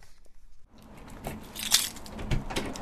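Keys jingle and clink in a quick, irregular flurry of bright metallic rattles as a woman grabs them and walks out of her apartment at the Hacienda low-income housing complex in Portland's Cully neighborhood, after a brief quiet moment.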